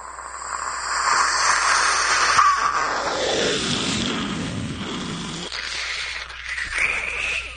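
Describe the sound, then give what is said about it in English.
A voice imitates a passing jet with a sustained breathy, hissing roar that swells and sweeps downward in pitch midway, then tails off into a thinner hiss, lasting several seconds. “I used to do passing jet, but... Passing jet didn't catch the imagination.”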